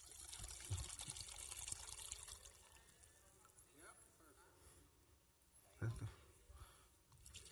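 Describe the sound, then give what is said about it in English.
One cup of water pours into a pot with a steady splashing rush, a few louder sloshes breaking through near the end, while voices murmur faintly in the background. “And one cup of water.”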